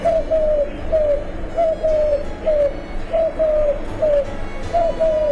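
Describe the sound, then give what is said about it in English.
A Eurasian collared dove (Streptopelia decaocto) coos over and over in steady three-note phrases, soft and hollow, clear, with a faint outdoor hum underneath and no one talking. “The Eurasian collared dove, Streptopelia deka octo.”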